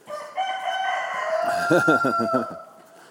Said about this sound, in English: The chickens are out.